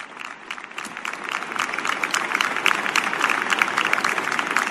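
crowd, stadium applause

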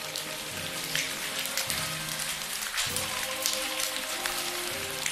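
nature, steady rain falling

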